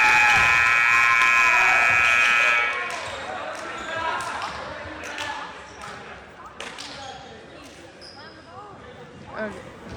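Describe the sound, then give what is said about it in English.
A loud, steady buzzer sounds for halftime over a noisy crowd at a basketball game between the Wolverines and the T-Jacks. Then a player slams the basketball hard onto the floor, earning a warning, among sharp thuds and ongoing crowd chatter. “Chase getting a warning for slamming the ball on the ground.”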